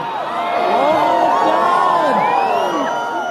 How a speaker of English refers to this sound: Well, I was surrounded by a couple hundred other people. But when it was announced that we could take our eclipse glasses off, there was a cry from the crowd that went up when we looked into the sky. So here's what that sounded like.